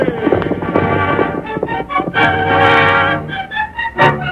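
horses galloping away

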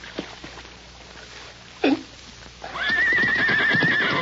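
horse neighing and whinnying

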